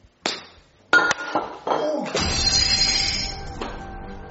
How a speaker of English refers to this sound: Oh, no, you broke the flower vase.